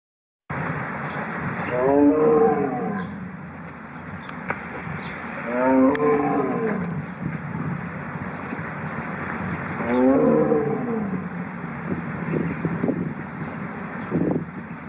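A Siberian tiger roars three times, each deep, drawn-out roar rising and falling, spaced several seconds apart with a low rumbling background between them, loud with no voices.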